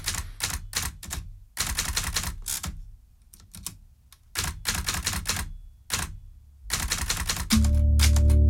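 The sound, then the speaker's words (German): Bursts of crisp, rapid clacks from a mechanical typewriter being typed on at the start of a concert, fairly loud, in uneven clusters with short pauses, ending as a steady low tone swells in underneath. “Spannt die Seite ein. War auch der Anfang des Konzerts, so haben wir angefangen. Und jetzt tippt er.”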